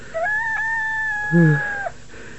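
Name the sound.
rooster crowing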